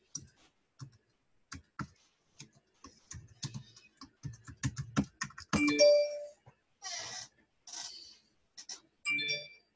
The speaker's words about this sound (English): Can y'all hear that bell? Oh, you can? Turn that thing down. Is that your phone? Oh, that's the iPad.